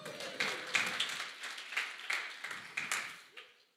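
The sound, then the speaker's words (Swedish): A short burst of applause from a small group, steady clapping for a few seconds before it quickly dies away. “Ge en applåd”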